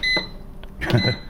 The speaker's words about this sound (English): Yeah, if you press a preset and don't hear it beep, it means you forgot to press power.